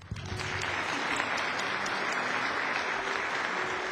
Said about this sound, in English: You can clap.